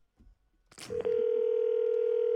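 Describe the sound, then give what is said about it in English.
A brief clatter of handling noise, then a steady, unbroken telephone tone comes in loud and holds to the end, like a phone line dialing out. “Can you pick up that phone?”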